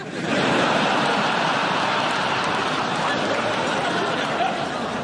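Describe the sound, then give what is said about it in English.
An audience claps in a sustained round of applause for pianist Colin Sell, a dense steady patter of many hands that holds at an even, fairly loud level for several seconds before easing slightly at the end. “He's never had a round of applause before, so it's...”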